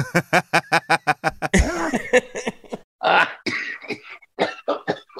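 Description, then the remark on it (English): A man coughs in a rapid string of sharp bursts, then wheezes and clears his throat before breaking into more heavy, ragged coughs and gasps, loud. “He's coughing.”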